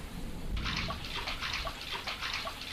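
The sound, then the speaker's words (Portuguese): Water splashes in quick, rhythmic bursts as someone swims with steady strokes through cold floodwater, moderately loud, starting after a brief quiet moment and continuing without any voices. “Mas enchente não é legal. É fria e eu tô cansado de tanto nadar.”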